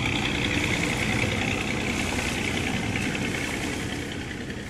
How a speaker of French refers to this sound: Heureusement, ils ont leur bateau à moteur prêt à partir. Ils voguent 3 jours et 3 nuits sur l'océan.